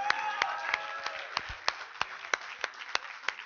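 An audience claps together in a steady, even rhythm, about three claps per second, sounding somewhat distant and soft, with faint voices calling out near the start.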